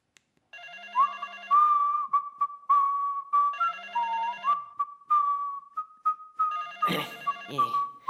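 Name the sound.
telephone ringing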